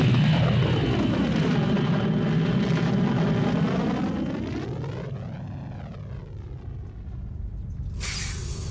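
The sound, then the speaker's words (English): A loud, steady roar of spaceship engines at liftoff, running at 90% of maximum, with sweeping harmonic whine that rises and falls as the craft pulls away from the Star of Empire's hangar deck, with a sharp burst of hiss near the end. No voices. “Engines are at 90% max, which isn't saying much.”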